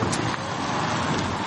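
An electric car, running on electricity instead of petrol, drives along almost silently with a soft, steady hum and a gentle rush of tyre and road noise, even and unbroken throughout, with no voices.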